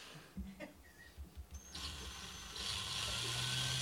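A few light clicks and taps, then a power drill whirs steadily as it drives a screw, its motor growing louder and higher-pitched partway through and holding a continuous buzzing whine.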